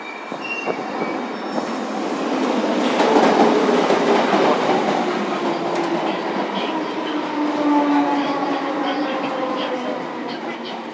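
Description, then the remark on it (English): A train rolls steadily along the tracks, a continuous loud rumble with metallic wheel squeals rising and fading and occasional clacks over the rail joints. “Please mind the gap between the train and the platform.”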